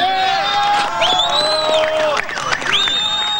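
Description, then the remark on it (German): A large crowd cheers loudly and continuously at a copper mine in the Atacama Desert as a rescue capsule carrying a 54-year-old miner comes into view, with overlapping shouts, whoops and shrill rising whistles, the jubilant noise staying at full strength throughout. “Kaum war die Rettungskapsel mit dem 54-Jährigen an Bord in Sichtweite, kannte der Jubel keine Grenzen mehr.”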